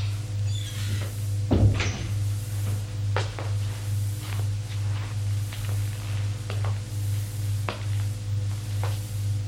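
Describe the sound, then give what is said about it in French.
A door off a corridor is opened with a sharp wooden clack and creak near the start as someone turns on the light and enters, followed by a few lighter knocks and taps, all over a steady low electrical hum. “Ouvre une porte, éclaire, entrez, il entre.”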